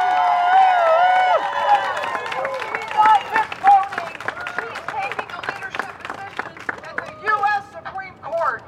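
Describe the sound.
A crowd at a pro-life rally, held days after the Supreme Court's ruling, cheers for Amy Coney Barrett, whooping loudly, raised voices and whistles swelling at first, then thinning into scattered clapping and shouts that keep bursting up in uneven waves.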